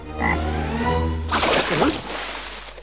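frog croaking

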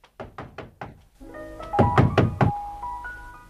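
knocking on a door

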